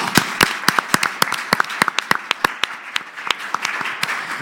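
Applause from an audience for a mayor: many sharp, irregular claps overlapping into a steady patter of moderate loudness, with no talking.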